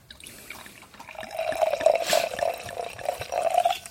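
A drink is poured into the left glass, a steady splashing trickle with a ringing tone that swells after a quiet start and keeps going for several seconds, with no voices.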